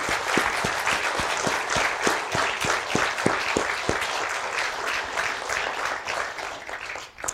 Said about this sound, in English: All right, we can celebrate these guys with a little bit of applause, I think.